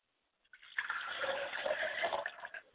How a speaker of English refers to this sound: I like to pour libations for my mother's spirit, Clara Lily Jenkins, and I say Ashe.